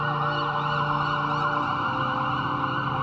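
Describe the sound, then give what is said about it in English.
A loud ambulance siren wails continuously for the whole stretch, steady, with a low engine and road rumble underneath and no voices. “The ambulance ride seemed buoyant to the point of pleasant before I passed out from losing too much blood.”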